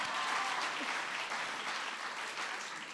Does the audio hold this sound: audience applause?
yes